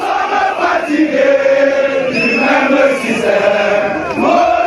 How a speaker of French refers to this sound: La foule n'a cessé de grossir devant le siège du MRC. Au fil des heures et sous un soleil de plomb, ils étaient plusieurs milliers à chanter à la gloire de leur leader.